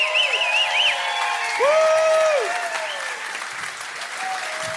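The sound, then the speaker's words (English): Steady audience applause at a live comedy music show, with a dense, even clatter of clapping that holds loud for several seconds, while a few high, sliding whistles rise and fall above it. “Come on, keep it going for the whole show, you guys, for coming out.”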